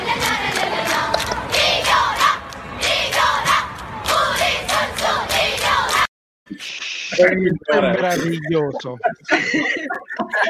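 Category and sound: crowd, audience applause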